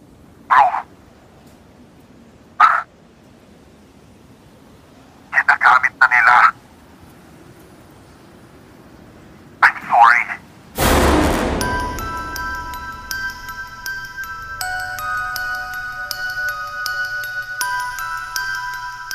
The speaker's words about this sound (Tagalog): Tumunog pa ang telepono ng binata at agad niya itong kinuha upang sagutin kung sino man ang tumatawag.